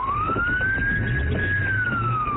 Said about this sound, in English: The sound of the police siren was recorded by a Paradise police officer racing to the house.